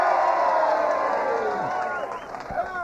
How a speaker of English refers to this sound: If they'll just cheer like you people are going to cheer right now.